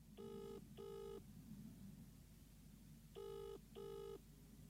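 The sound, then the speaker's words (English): A telephone ringing tone from an outgoing call to a spiritual healer and advisor sounds in two double bursts, each pair of steady, buzzy tones separated by a pause, over a low background hum. “Oh, we're ringing”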